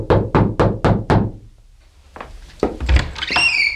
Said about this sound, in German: blieb vor der Zimmertür 108 stehen. Er atmete einmal tief ein und klopfte entschlossen an.